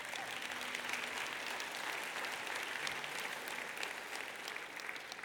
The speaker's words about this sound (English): Now you're probably clapping, hoping I'm going to get done, right?